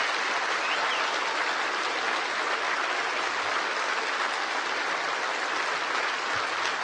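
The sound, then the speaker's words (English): A crowd applauds the president: steady, dense applause, a continuous crackle of many hands clapping at an even loudness for several seconds with no voices standing out. “I want you to once again applaud this president for being proud of who we are.”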